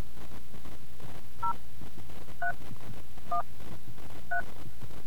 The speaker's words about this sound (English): Please enter your 6-digit Gallup access code by pressing the corresponding keys on your phone. Please enter your number now.